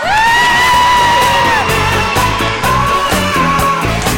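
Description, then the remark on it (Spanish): A loud crowd cheers and claps, with a high whooping yell soaring over steady applause for the first couple of seconds, then more shouts and whoops continuing through the noisy ovation; a strong round of applause. “Gracias, Pablo, un fort aplaudiment.”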